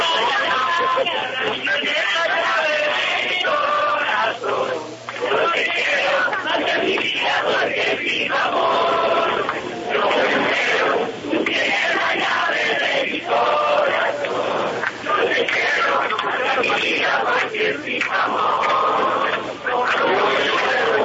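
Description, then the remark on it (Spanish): A large crowd of demonstrators, people waiting to return to Colombia, sings together, recorded on a mobile phone: a loud, continuous wall of massed voices with a thin, tinny quality, carrying steadily for about twenty seconds with only brief dips. “Usted puede hacerlo, acercar el celular ahí y dejarnos oír lo que están cantando, por favor.”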